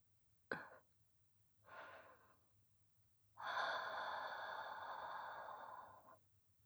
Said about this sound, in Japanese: 吐息を吹きかけられて興奮を催すフェチもあるとはな。